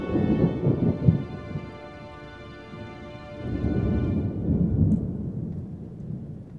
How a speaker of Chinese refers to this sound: 天色阴沉，布满了黑云，没有阳光，还能听到远方的雷声。